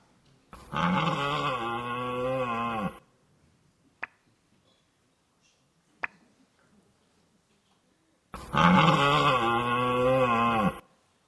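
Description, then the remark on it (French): A red deer stag bellows twice during the autumn rut, its mating season, each roar a loud, deep, drawn-out groan lasting a couple of seconds, with a long quiet pause and two faint clicks between them. “Nous allons voir un exemple amusant qu'est le brame du cerf.”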